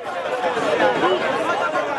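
A dense crowd of Haitians murmurs and chatters outside Haiti's Migration Agency, waiting to apply for a US humanitarian program for immigrants. Many overlapping voices blend into a steady, fairly loud babble with no single speaker standing out.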